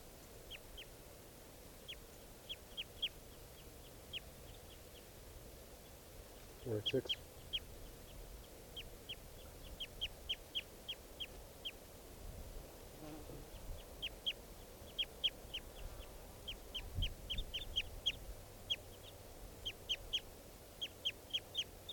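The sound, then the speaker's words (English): A bird, recorded as bird 486, calls again and again in quick bursts of short, high-pitched chirps over a low steady hum, with a couple of brief low rumbles partway through. “So recording bird 486.”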